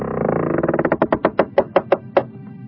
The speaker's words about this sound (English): And here I am again, opening yet another door.